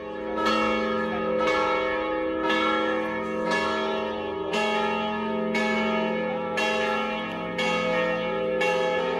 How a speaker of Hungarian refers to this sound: Lébénybe írve harangszó várta a zarándokokat.